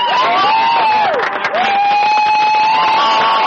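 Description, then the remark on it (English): Baseball fans in St. George cheer loudly and steadily at the Western Baseball League championship trophy presentation, a dense roar of voices with shrill whoops and whistles rising and falling above it, briefly dipping midway before surging again. “Lots of cheering among the fans.”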